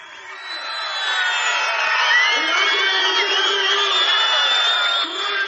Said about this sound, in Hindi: ये उत्साही भीड़ की आवाज कर्नाटका के मंड्या में कल सुनने को मिली जब मुख्यमंत्री एचडी कुमार स्वामी के बेटे निखिल गौड़ा अपना नामांकन पत्र दाखिल करने के लिए गए।